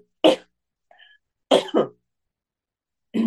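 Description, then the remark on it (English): A person coughs and clears their throat in several short, harsh bursts: one cough, a quick double cough a moment later, then another at the end, with near silence between. “Sorry, guys, frog in my throat.”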